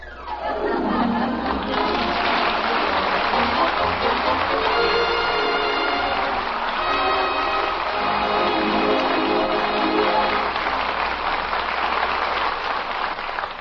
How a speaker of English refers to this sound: Oh, honey. Have you ever heard anything more beautiful in all your life? Jim, what is it? It's raining!